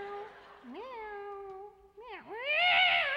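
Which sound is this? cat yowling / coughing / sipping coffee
cat yowling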